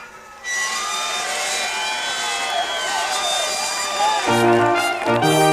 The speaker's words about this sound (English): Oh, well, it's a very old train. The train's got to stop or the frogs will be marmalised. Poor Fergal and his froggy family. Oh, the train's stopping.